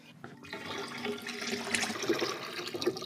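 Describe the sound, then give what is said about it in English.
Salted water, a 10-liter bucket of tap water with 350 grams of salt mixed as average ocean water, pours steadily from the bucket into a tank, a continuous splashing rush that starts abruptly and keeps going, with no one speaking. “Now I have to pour this into the tank.”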